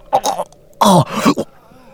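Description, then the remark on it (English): A man, helped to sit up, coughs and clears his throat: a few short raspy hacks, a brief pause, then a louder harsh cough followed by two smaller rough throat-clearing bursts. “helped him sit up so that he could cough and get his throat clear.”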